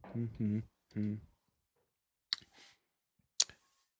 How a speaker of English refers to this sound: He's typing. That's what you're missing right now.